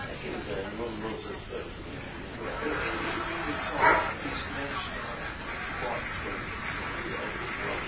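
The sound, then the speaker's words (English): A female dog lets out a sharp bark near the middle, with a few softer yips around it, while people talk quietly in the background. “She barked and she can hear that thing outside.”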